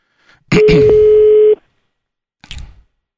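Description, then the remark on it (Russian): A single loud, steady telephone ringback tone, a pure hum lasting about a second after a sharp click, followed by silence and a short burst of line noise, as Sergei Dorenko phones the wife of an arrested man. “Слушайте, это Сергей Доренко звонит.”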